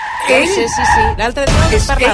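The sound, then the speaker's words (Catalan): A voice imitates a car braking hard, a rising and falling vocal screech like skidding tires, fairly loud, lasting about two seconds. “No, entenc, però vostè és d'aquells que de cop i volta frena, o sigui, fa una frenada en sec i el que va darrere te'l menges.”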